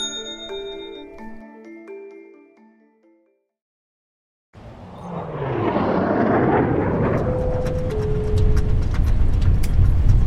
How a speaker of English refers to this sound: It's okay. It's just turbulence. I'm a bit of a nervous flyer. It's a really safe plane.